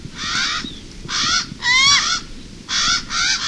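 A Hawaiian crow (Alala) calls repeatedly, giving five harsh, raspy caws in a loose rhythm, loud, with no talking.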